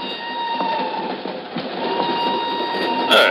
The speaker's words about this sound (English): An hour later, she's aboard a northbound train rolling out of Lisbon. I'm in the same car a few seats away.